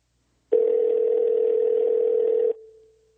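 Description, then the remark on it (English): A steady telephone dial tone hums loudly and continuously for about two seconds, then cuts off sharply, leaving a faint fading trace, as a caller hangs up to call back for a better connection. No one speaks. “Let me just hang up on you, quick call you back.”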